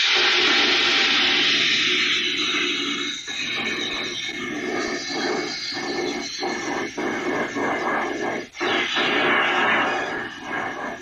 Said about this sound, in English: The liquid carbon dioxide in the bottle turns into a gas as it's released. That gas, in turn, turns into a shower of ice and snow. So this is what it might be like if you were near one of these geysers on Triton.